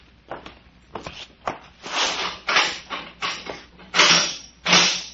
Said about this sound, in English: see that door over there? Yes. Here is the key to it. Unlock it.